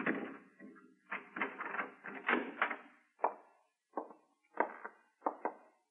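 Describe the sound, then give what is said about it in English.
A door is unlocked and opened: a quick run of metallic clicks and rattles from a key working the lock, then a few sharper knocks and clunks as it swings open. “Go on, open the door.”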